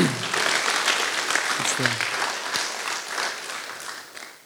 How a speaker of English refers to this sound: So it's like, you can give God a round of applause for those things, honestly.